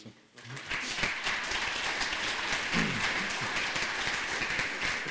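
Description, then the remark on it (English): Steady applause from an audience, a dense crackle of many hands clapping at an even level for several seconds, with faint murmuring voices underneath. “Just welcome them to the film. Some applause.”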